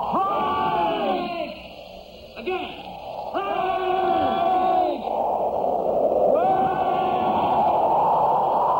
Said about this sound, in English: Come on, boys. Yell together. They didn't hear us.